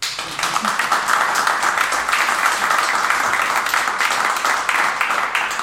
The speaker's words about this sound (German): Und das ist ein Applaus wert.